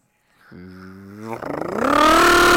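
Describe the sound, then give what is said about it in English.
A voice imitates a motorcycle driving past: a low, steady hum gives way to a rough, buzzing growl that rises in pitch and grows steadily louder, like an engine revving as it passes. “I'm so tired of the noise of motorcycles.”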